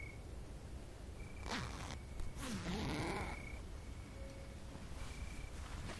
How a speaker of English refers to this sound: Take off my dress quick. The zipper's in the back.